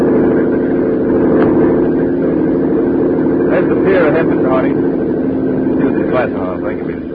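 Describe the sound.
A speedboat engine drones loudly and steadily throughout on a trip to Cuba, a constant rumble with a rough mechanical edge, while indistinct voices briefly surface over it partway through.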